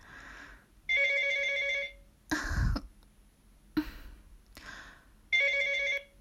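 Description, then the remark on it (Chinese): A phone rings with an electronic, warbling ringtone in two bursts about four seconds apart, fairly loud, with a few muffled thumps and rustles between the rings. It is an incoming call from a woman's husband. “为什么等我老公真打过来了又不让我接了？别闹，赶紧把电话拿过来。”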